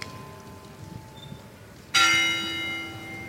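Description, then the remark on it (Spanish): A single loud strike of a procession bell rings out after a quiet, hushed moment during a procession of nazarenos, marking that a dead crucified figure is about to come out; its bright metallic tone lingers and slowly fades with a rich, sustained resonance. “El silencio solo se rompe por la abertura y cierre de los diafragmas de las cámaras y de esa campana.”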